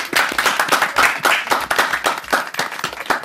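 An audience applauds steadily, a dense crackle of many hands clapping at once, fairly loud and sustained for a few seconds with no voices over it.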